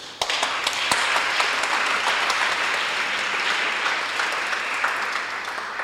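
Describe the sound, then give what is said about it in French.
An audience at an event promoting African literature in the capital of Belgium bursts into applause, a dense, steady wash of many hands clapping that holds its loudness for several seconds before easing slightly at the end. No voices are heard. “Votre dévouement et votre passion pour la promotion de la littérature africaine méritent tous les honneurs et tous les applaudissements.”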